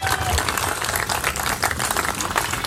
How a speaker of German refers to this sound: So, meine sehr geehrten Damen und Herren, nochmal einen kräftigen Applaus.